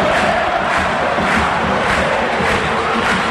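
A football crowd roars in celebration of Cerro's equalizing goal by Novi against Nacional, making it 1-1: a dense, loud wall of cheering and shouting that stays steady throughout with brief surges of yelling.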